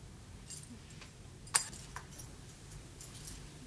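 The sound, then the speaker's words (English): A brief jangle of van keys with one sharp metallic clink near the middle, fairly quiet against a low background hum, with no one talking. “could I please have the keys to the van”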